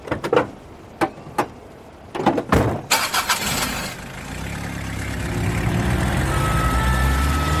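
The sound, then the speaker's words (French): A few sharp clunks and knocks as a heart attack patient is put into the ambulance, then the ambulance engine cranks and catches, settling into a steady rumbling idle that carries on to the end. No one speaks. “Ok, on le met dans le camion tout de suite.”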